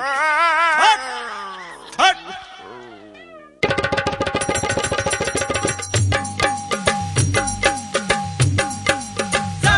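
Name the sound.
dog barking and yipping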